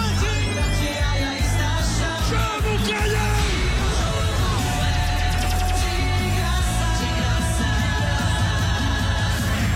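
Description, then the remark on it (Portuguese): A loud, drawn-out goal celebration shout holds a long sustained note, ringing out over a dense, booming bed of music and crowd-like noise that stays at full volume throughout. “A jogada de efeito, o lance perfeito, o grito de gol.”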